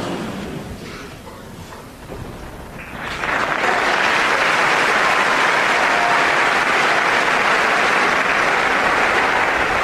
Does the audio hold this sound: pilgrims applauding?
yes